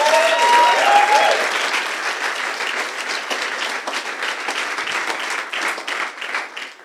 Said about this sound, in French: Et puis je propose juste qu'on l'applaudisse pour lui montrer notre amour qu'on a pour elle.